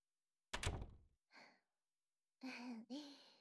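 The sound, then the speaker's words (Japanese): A room door swings shut with a single solid thud and brief rattle, followed by a soft breath and a short, wordless vocal murmur. “じゃあもうドア閉めちゃいますね。”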